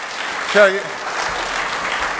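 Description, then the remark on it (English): An audience in a church applauds with steady, dense clapping throughout, and a brief voiced shout or cheer rises over it near the start before the clapping carries on evenly. “Friends, when you're in a church that believes that, there should be a big round of applause at the end of all of that, right?”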